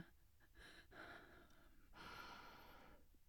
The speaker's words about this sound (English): I'm not breathing that hard, am I? Okay, hush. Look, can you blame me?